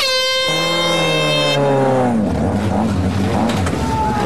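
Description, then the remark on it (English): A small, dinky Jeep's engine roars loudly with a high, buzzing whine, holding steady before its pitch sags and it breaks into a rough, rumbling churn as the vehicle pulls away after a 3, 2, 1 countdown. “It's barley picker … next, squeezed into that dinky Jeep.”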